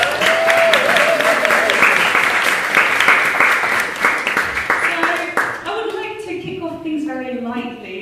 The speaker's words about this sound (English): So big applause, first of all, for a wonderful panel.